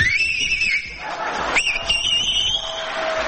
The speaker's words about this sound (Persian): ببین این آقا از بخواب سه تا انگشتش یا دو تاشو گذاشته تو دهنش داره سوت میزنه. من بهش میگم که توی جوون حیف دهنت گشاد میشه، نمیخواد انگشتاتو دهنت بکنی، شما همینجوری هم میتونی سوت بزنی.